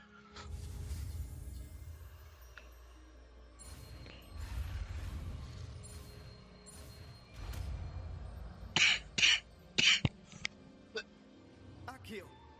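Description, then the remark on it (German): A harsh choking coughing fit: four or five rough bursts in quick succession near the end, after a stretch of low rumbling and breathy noise, with a few softer sounds trailing after. “Bei dem Erstickungsanfall jetzt gerade ging's.”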